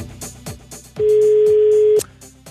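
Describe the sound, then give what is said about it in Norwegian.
A single steady telephone ringing tone sounds for about one second, loud, over a rhythmic music bed that continues before and after it. It rings after a number is dialed to call the day's quiz participant on the radio station NRK P3. “Nå slå nummeret.”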